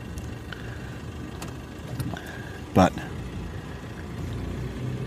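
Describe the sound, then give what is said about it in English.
Police cars rumble past on a road beside thick bush, a steady low engine drone with a brief louder thump partway through, while a person speaks briefly over the traffic. “Cop cars.”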